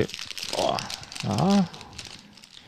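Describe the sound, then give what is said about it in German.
Steady crinkling and rustling of a plastic snack bag being opened, with a short voiced exclamation rising and falling partway through. “Wollen wir sie mal aufmachen?”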